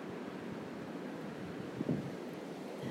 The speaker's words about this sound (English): It's really, really windy again.